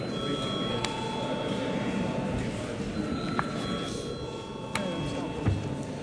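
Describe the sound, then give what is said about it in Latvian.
A steady electric bell rings continuously for several seconds in the Latvian Saeima, calling deputies to vote on the third reading of amendments to the law on national referendums. Its sustained tone holds over a murmur of background voices, with a few brief clicks and knocks. “Lūdzu zvanu.”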